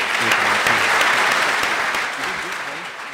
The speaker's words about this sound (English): His story drew a standing ovation this week.